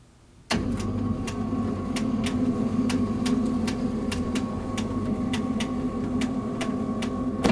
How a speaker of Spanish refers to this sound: Abre la persiana.